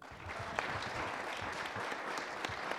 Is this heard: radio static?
no